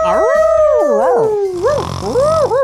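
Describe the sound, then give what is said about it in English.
A person imitates a confused dog howling, one long wavering howl with sliding, wobbling pitch that dips and rises, loud, with no words spoken. “He was doing the confused dog.”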